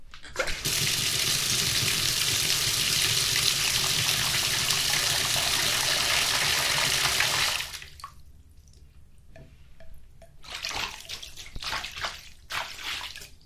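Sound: water running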